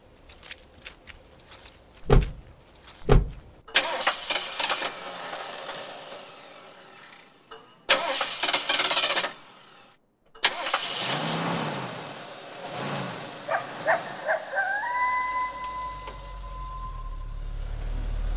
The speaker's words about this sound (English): Come on, help me get the car started.